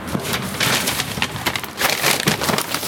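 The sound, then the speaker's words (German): A meal-kit bag ('Kochtüte') for a chickpea-coconut dish with mint, peanuts and long-grain rice is torn open. It gives a steady run of bright, crinkly rustling and ripping that swells and dips in loudness for about three seconds, with no voices. “Tüte aufgeruppt.”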